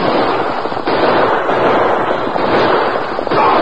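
A loud, sustained barrage of gunshots as Martin and his pal Shorty close in with a gun in each hand, the cracks coming so fast they blur into a dense, crackling roar for several seconds, with no voices.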